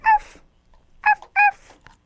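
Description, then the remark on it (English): A small dog gives three short, high-pitched yips and whimpers, the first alone and the last two close together, clear with no talking. “Look at the little doggy.”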